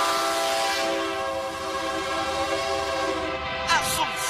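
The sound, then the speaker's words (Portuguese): A loud, sustained train horn blares with steady harmonic tones over rumbling rail noise, followed near the end by a few sharp clanking bursts. “O trem, trem. O trem da comunicação.”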